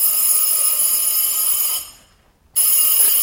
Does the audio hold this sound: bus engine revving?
no